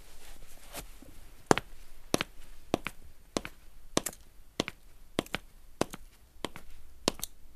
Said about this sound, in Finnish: bisnesmiesten nahkapohjaisia, missä on nämä naulatut kaikki jutut, arvokkaita kenkiä. Näitä me on eBaystä ostelusten käytetty. Näitä. Näissä on sitten oma kopina.